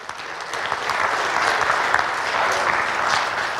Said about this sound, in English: Oh, give the Lord a hand clap of praise for that one.